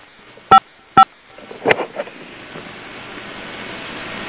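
Two short, loud telephone keypad tones sound about half a second apart as *55 is pressed on a phone to increase volume, followed by a brief muffled clatter and a steady low hiss, like a phone line.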